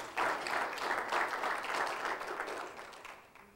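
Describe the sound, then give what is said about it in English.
An audience applauds with dense, steady clapping that starts abruptly, holds at an even level for a few seconds, then gradually thins and fades out. No one speaks. “You can clap for that.”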